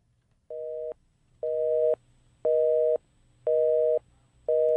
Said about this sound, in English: A busy signal. Why did they say the busy signal is going away? I can't remember the last time I heard one.